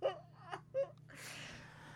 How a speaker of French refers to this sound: Tu pleures? Je pleure.